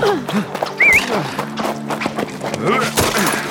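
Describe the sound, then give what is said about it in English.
Saddle horses and pack horses galloping away from a water stop in a busy rush of hoofbeats and thuds, with a brief high whinny rising early on and another fainter neigh later, while voices call out over the commotion. “Make for the horses!”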